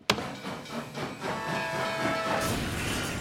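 A loud speeding freight train roars past with a sharp start, then a steady rushing rumble and hiss, with faint whistle-like tones riding over it. No one speaks.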